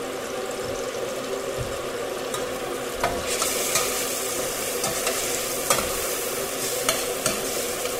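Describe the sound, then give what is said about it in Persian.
Lamb meat that has just been added to onions fries in a pan with a steady, dense sizzle, broken by sharp clicks and scrapes as the mixture is stirred. The hiss grows brighter partway through as the heat is turned up, and nobody speaks. “کاری که میکنم گوشتم رو اضافه میکنم به مواد، یعنی به پیاز.”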